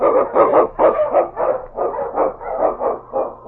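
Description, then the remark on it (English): King, the Eskimo lead sled dog of The Challenge of the Yukon, barks loudly and excitedly in a rapid, steady string of about nine sharp barks with no pause between them. No voices are heard. “The Wonder Dog King, swift and strongest of Eskimo lead dogs, blazes the trail through storm and snow for Sergeant Preston”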